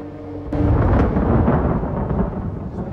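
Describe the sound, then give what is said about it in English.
Thunder breaks with a sharp crack and rolls into a deep, sustained rumble that stays loud and steady throughout, with no voices present, as lightning flashes in the distance. “Lightning flashes in the distance.”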